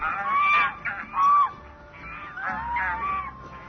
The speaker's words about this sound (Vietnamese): Một ngày nọ, thái tử đang ngồi trong giường, có một đàn thiên nga trắng xóa bay ngang trên đầu.